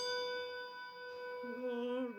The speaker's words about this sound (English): Takes its toll, and the bell tolls.